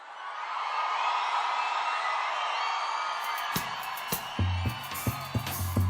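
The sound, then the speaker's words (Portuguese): A large crowd at a show paying homage to Brazil's Northeast (Nordeste) roars, whoops and cheers in a sustained wash of noise, then a band kicks in partway through with bass and sharp drum hits rising beneath the cheering. “Grita, galera!”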